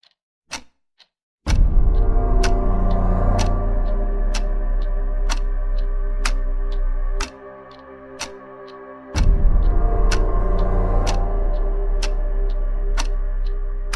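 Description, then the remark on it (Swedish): A man's mechanical wind-up clock, freshly wound, ticks steadily on a care ward in the late evening at an even, unhurried pace, each sharp tick clear over a low, continuous hum that briefly drops away midway before returning. “Ett tickande som ingen förutom mannen visste var det kom ifrån.”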